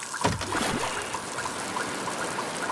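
Water pours and splashes steadily, a continuous rushing trickle with a few sharper splashes near the start, with no voices; water flooding into an office.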